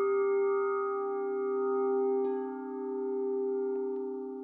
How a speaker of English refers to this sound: Ernest Hemingway wrote, "For whom the bell tolls, it tolls for thee." Oh, I think the bell tolls for everybody. All of us. There's no escaping the bells.